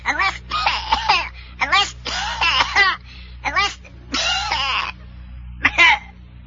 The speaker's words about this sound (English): Yeah, and as Captain Jupiter gasped and coughed, he turned green as he said, Then all is lost, Professor.